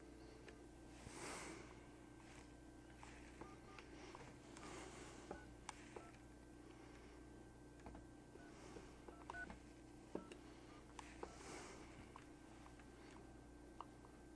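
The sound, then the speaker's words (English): A series of short electronic keypad tones beeps out a phone number, each press a brief distinct pitch in an uneven rhythm, clear over a low steady background hum, as a number is redialed for a Skype call from a computer. “The number I've dialed is unallocated.”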